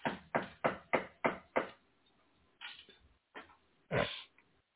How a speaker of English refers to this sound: God forbid. Let's knock on wood.